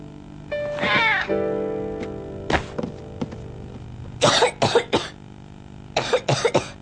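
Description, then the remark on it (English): A child, Caillou, who has the flu, coughs in two quick clusters, three harsh coughs and then three more, fairly loud, after a brief drawn-out whimpering vocal sound at the start. “Caillou felt hot and was coughing, and he knew what that meant.”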